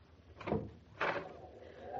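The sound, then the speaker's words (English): A door being opened onto freezing weather outside, heard as two short, rough bursts about half a second apart, like a latch rattling and then the door swinging, at a moderate level over a faint background hum. “I just opened the door.”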